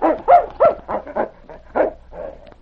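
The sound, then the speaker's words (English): A husky named King whines, yelps and scratches at the door of a shack in a canyon in a string of about eight short, rising-and-falling cries, fairly loud, with brief pauses between them and no talking. “Then he began to whine and scratch at the door.”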